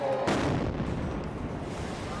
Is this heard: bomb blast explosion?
yes